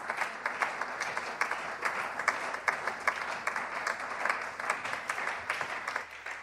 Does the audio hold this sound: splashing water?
no